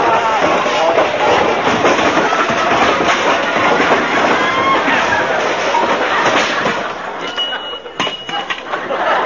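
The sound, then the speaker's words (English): A long, loud avalanche of objects tumbling and crashing out of an overstuffed hall closet after its door is opened, a dense clattering jumble for several seconds that thins out near the end into a few scattered clinks and rattles. “No, that's the hall closet, Wimp.”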